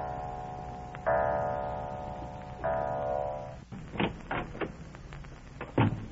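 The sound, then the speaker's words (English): A clock in a house chimes twice, each resonant stroke ringing out and slowly fading, followed by a series of sharp wooden clicks and knocks like a door being opened and closed as a man quietly lets himself into the house. “Drenched to the skin by an unseasonable downpour, he quietly lets himself into the house as the clock strikes.”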